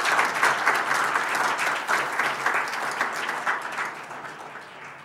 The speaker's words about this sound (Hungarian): Nagyon szépen köszönjük a tolmácsok kitartó és fáradhatatlan munkáját. Azt hiszem egy tapsot ők is megérdemelnek.